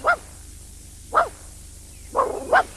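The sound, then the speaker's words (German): A dog gives four short, sharp barks, spaced irregularly with the last two coming quickly together, over a faint low hum and no talking. “heul doch nicht so.”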